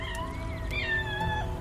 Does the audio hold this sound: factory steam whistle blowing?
no